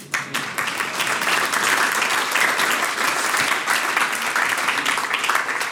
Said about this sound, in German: Ich bitte um einen Applaus für diese Ansage.